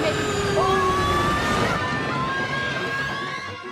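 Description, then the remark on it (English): A loud, steady engine roar of a chartered bus hurtling forward at speed, its tone holding steady, then easing off slightly as the bus slows and the noise fades a little toward the end. “Marnie and Dylan grip the seat in front of them as the bus hurtles forward. The bus slows”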